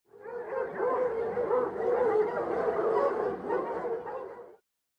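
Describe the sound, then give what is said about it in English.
Several dogs at a rescue centre bark together in a dense, overlapping chorus that keeps up steadily for about four and a half seconds, loud, with a few higher yips mixed in. “Some dogs began barking.”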